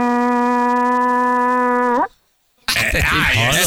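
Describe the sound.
A man's voice imitates a ship's horn with one loud, steady, low blare held for about two seconds. It dips slightly at the end, then after a short silence a loud burst of noisy commotion follows.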